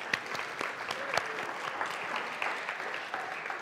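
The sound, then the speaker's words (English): A room full of people applauding steadily, dense overlapping claps at a fairly even level throughout, with no talking. “So maybe we'll just give her a clap, a round of applause.”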